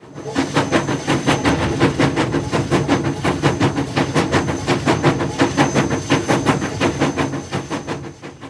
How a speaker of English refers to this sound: The train begins to move.